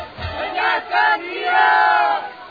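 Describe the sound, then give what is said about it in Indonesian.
A crowd following soldiers to their headquarters shouts together in a loud, overlapping roar, rising in surges before swelling into a sustained collective yell, with no single voice standing out. “Mereka mengikuti prajurit-prajurit itu dari belakang sambil berteriak-teriak.”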